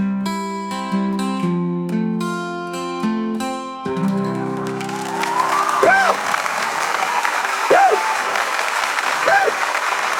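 A short burst of music gives way to a show audience clapping steadily, with loud whoops and whistles rising above the applause every couple of seconds.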